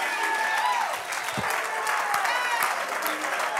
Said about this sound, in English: Somebody right now, clap your hands unto the Lord. Lift up the name that's above every name. Hallelujah.